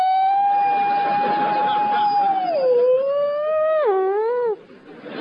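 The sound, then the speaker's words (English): A voice imitates the wailing siren of a modern fire engine: one long sustained tone that swoops downward, wobbles up and down, then cuts off, loud over faint background noise. “And now we have these screamingly camp new sirens. Fire engines scream past the house going, "Woo!"”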